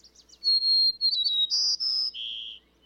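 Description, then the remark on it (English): A bird sings a string of high, clear whistled notes, some sustained and some stepping down in pitch, with a few quick chirps at the start. No one speaks. “Bird vocalizations come in two general types: songs, used to attract mates, and calls, with other meanings such as alarm or just, hey, I'm over here.”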